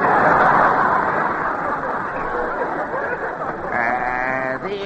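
A comic sound effect of a cow that has been lapping up high-test gasoline backfiring: a loud, rough engine-like rumble for several seconds that turns into a wavering, nasal moo near the end.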